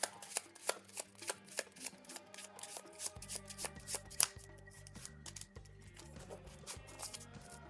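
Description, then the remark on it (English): The encounter deck of a card game is shuffled: repeated crisp riffling bursts and soft card slaps in an uneven rhythm, with quiet background music underneath. “Shuffle, shuffle, shuffle.”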